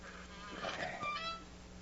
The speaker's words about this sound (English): That does it. Now, to swing the door open.